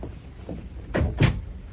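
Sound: door being closed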